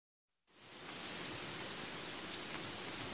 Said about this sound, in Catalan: Escolta, plou moltíssim a Gandia i no sé què fer demà.